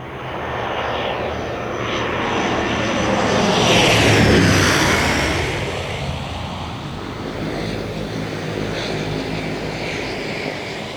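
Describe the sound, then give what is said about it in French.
The plane carrying Pope John Paul II lands on one of his papal journeys; its engines roar steadily, swelling loud as it passes around the middle, then easing off into a lingering whine over a constant windy rush. No voices. “Après chaque descente d'avion, Jean-Paul II se met à genoux sur le sol et embrasse la terre du pays qu'il vient rencontrer.”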